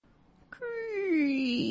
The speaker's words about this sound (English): Creaky door.